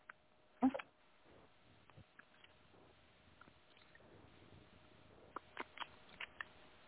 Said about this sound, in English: So just think to yourself, like, what this full moon lunar eclipse is going to bring into your life, and I'm going to shuffle the cards while I'm doing so, and just let me know when you would like me to stop shuffling.